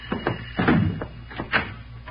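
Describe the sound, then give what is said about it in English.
Knocking on a door: a handful of firm raps at uneven intervals, moderately loud, with no voices over them. “Come on in, Johnny boy. Door ain't locked.”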